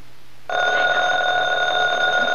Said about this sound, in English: The phone. I'm not going to answer. I've got enough on my mind.